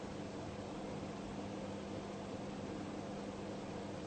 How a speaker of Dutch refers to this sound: Je zit niet meer op die lijn van het object, ventilator, en de mind die dat oppikt, zodat je zegt, ik hoor die ventilator. Dat is één rechte lijn van de waarnemer en de ventilator.